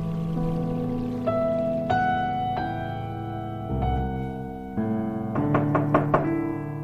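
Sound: knocking on a door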